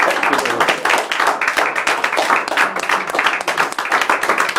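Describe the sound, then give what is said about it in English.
An audience in the house of the Lord claps together at night in a sustained burst, many hands striking in dense, overlapping slaps at a steady, lively pace, loud and continuous for several seconds with no one speaking. “Just one more hand clap.”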